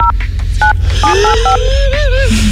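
Several short two-tone telephone keypad beeps, spaced irregularly as buttons are pressed to dial the long-distance phone number of a randomly drawn contest finalist, with a sliding whistle-like tone running beneath them over a low steady hum.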